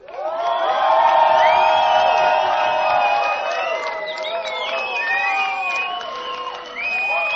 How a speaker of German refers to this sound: Also Freunde, jetzt ist es soweit. Lasst mal einen Applaus hören